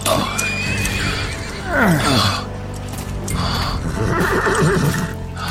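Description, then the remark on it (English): A horse whinnies loudly, its cry sweeping down in pitch, then snorts and neighs again while hooves clop and shuffle underneath. “Let me help you on your horse.”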